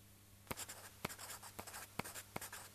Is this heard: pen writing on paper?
yes